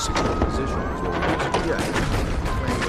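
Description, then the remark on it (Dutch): Dense, rapid gunfire crackles and booms without pause, mixed with indistinct shouting voices in a chaotic, loud battle scene outside the Reformed church where officers of the Governor General's Horse Guards are meeting. “De vergadering is amper begonnen als buiten schoten en kreten worden gehoord.”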